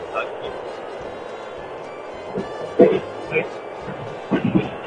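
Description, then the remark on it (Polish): Steady, muffled rumble of a moving train heard from inside by a passenger riding it home from Katowice, Poland, continuous throughout, with a few brief knocks and clunks rising above the drone and faint indistinct voices underneath. “Ty jedziesz teraz jakimś pociągiem?”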